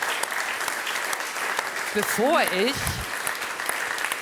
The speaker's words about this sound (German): Das ist er. Herzlichen Glückwunsch. Ihr Applaus.